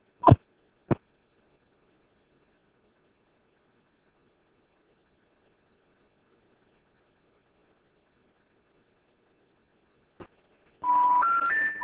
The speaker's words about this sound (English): Let me retry the number just in case somebody has misdialed.